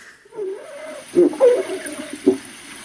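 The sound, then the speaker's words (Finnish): Underwater recording of Baltic Sea seals vocalizing, recorded in spring or early summer: low, drawn-out moaning calls with a few sharper knocking grunts, moderately loud against a muffled watery background, with no one speaking. “Onko tässä nyt jotain neuvonpitoa hylkeiden kesken meneillä? On. Eli tämä liittyy mittaukseen keväällä tai alkukesästä.”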